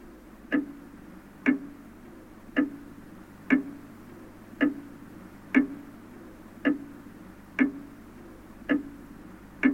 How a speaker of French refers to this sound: Le bruit du temps. Les horloges et autres tic-tac qui mettent en son le temps. Au moins depuis le XIIIe siècle et l'invention des premières horloges à poids, créant un va-et-vient bruyant, ce fameux tic-tac